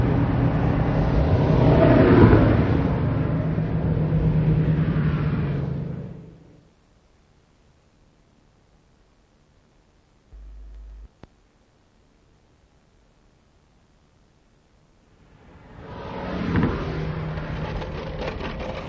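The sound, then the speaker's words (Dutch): A car engine runs loudly, its revving rising and falling, then cuts out for several seconds of near silence before roaring back to life with another rev. “Ja, motortje meneer, ik wou dat de fabrikant een motor maakte die tegen de tijd dat de auto voor op was ook in elkaar gestort werd.”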